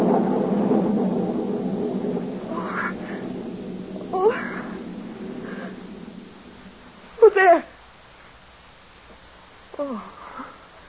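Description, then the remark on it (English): A low rumble of thunder rolls in loud and slowly fades over several seconds, while a few sharp cat-like cries rise above it, the clearest one coming after the rumble dies down. “Thunder.”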